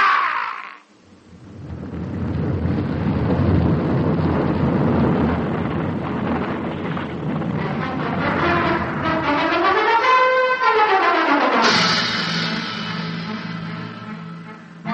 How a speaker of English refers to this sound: From the shelf to the ridge and beyond it, down the sheer white slopes, the loosened snow thundering along beneath me.